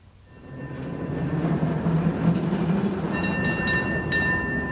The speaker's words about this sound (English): One of the most famous sounds of the city of San Francisco is the dinging of its cable cars which run through downtown.